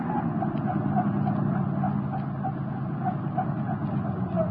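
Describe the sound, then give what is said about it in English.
A car engine rumbles steadily at a low pitch for several seconds, holding an even loudness throughout, with a faint repeating tick above the drone and no voices. “Hey, Hendricks, look up ahead. Yeah, I seen it. A car across the road.”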